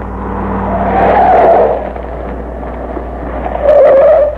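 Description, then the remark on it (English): A car engine rumbles as a Bureau car pulls up to pick people up after a truck has left, with two loud tire squeals as it skids to a stop, one early and a shorter one near the end. No one speaks. “Told the Bureau to have this car ready to pick us up instantly after the truck left.”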